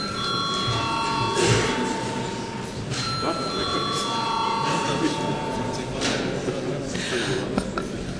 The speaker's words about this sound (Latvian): Un šobrīd lūdzu zvanu deputātu klātbūtnes reģistrācijai.